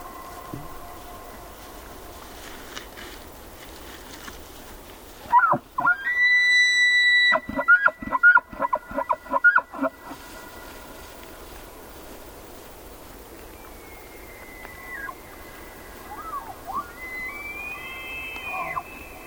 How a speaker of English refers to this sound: Jonathan Storm recorded these two male elk. Their competing testosterone-driven calls for female companions echo across a high meadow on an autumn evening in Yellowstone National Park.